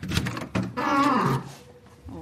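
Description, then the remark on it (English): A squeaky door in a university paleontology laboratory swings open with a drawn-out, wavering, high-pitched creak lasting about half a second, framed by shuffling and handling noises before and after. “Oh, lovely squeaky door.”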